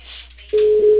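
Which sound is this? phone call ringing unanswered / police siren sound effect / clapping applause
phone call ringing unanswered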